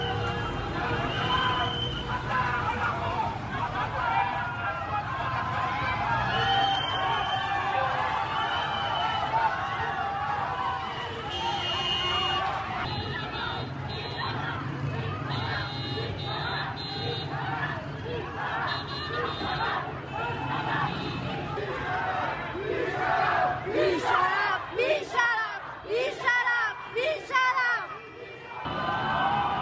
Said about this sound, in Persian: جمعیت بزرگی در برابر بیمارستان کسرا جمع شدند. اعتراض مردمی با بوق میدان آرژانتین بیمارستان کسرا.